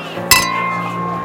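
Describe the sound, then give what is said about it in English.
A single bright clink of beer glasses knocking together in a toast, with a short ringing tone that lingers afterward. People talk in the background. “Cheers, everybody. Cheers.”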